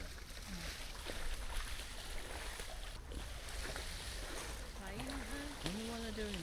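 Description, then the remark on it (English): Ducks splash and churn the water in a steady, rushing wash, with a few low voices or calls rising briefly toward the end. “I've never seen that though, when ducks splash about like that.”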